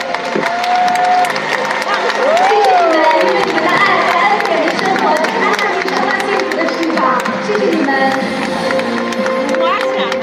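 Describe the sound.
A crowd breaks into sustained, lively applause with cheering, a dense wash of clapping that stays loud and steady throughout, with scattered voices calling out over it.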